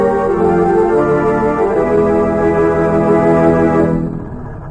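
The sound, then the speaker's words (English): A car engine runs steadily with a loud, rumbling drone, then cuts off near the end as the car stops at night a short distance from a house, and the sound quickly dies away. No one speaks. “B-9 and Rita stopped their car a short distance from the spy's home”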